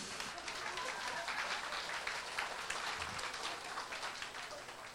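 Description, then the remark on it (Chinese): Steady applause from a church audience for members under forty raising their hands fills the whole five seconds, a dense wash of many hands clapping at an even, moderate loudness with no voices standing out. “所以不到四十岁举起手了一下，不到四十岁举高，我们给这点鼓掌好不好？”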